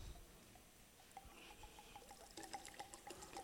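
Liquid is poured as a libation in a steady trickle, with small splashes and drips building toward the end, fairly quiet with no voices.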